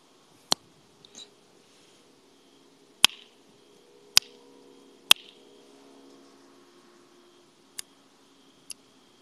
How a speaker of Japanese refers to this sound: 指パッチン上手くない？あれ？指パッチン上手くないっていう話した直後に全然できなくなった。